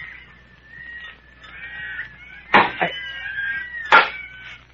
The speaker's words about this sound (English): Hey, what's that? Monkeys. Listen.